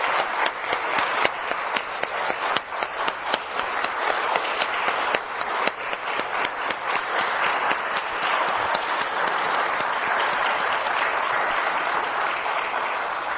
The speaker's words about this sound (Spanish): Inicio este mensaje solicitando, por supuesto, a todos los que estamos aquí, un aplauso de reconocimiento y mucho respeto para el inventor del líquido indeleble, que ha sido reconocido.